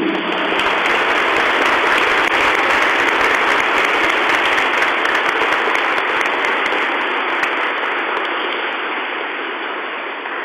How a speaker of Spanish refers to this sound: Y por cierto, tenemos que dar el aplauso más fuerte al niño Jesús.